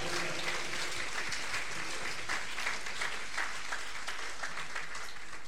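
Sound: audience applause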